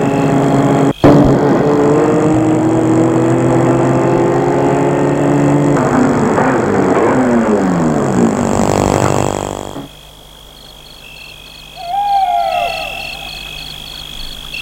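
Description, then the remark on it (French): A large black car's loud engine rumbles steadily, its pitch sliding down as it slows to a stop and then cutting off abruptly, leaving a quiet background with a few faint chirps. “Elle entend plutôt derrière elle le bruit d'une voiture.”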